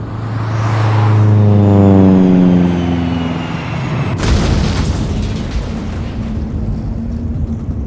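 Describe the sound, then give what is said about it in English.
A droning engine of a plane going down slides steadily downward in pitch for several seconds, then a loud explosive boom erupts as it crashes and trails off into a long, crackling rumble. No one speaks. “It's going down. The plane is going down.”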